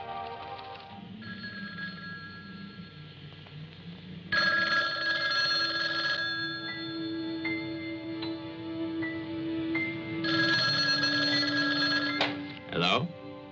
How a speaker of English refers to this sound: How about that telephone up at the Butler house? Is it working? Well, try it now.